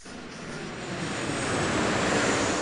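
airplane flying overhead

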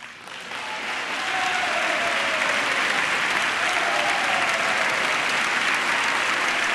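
applause

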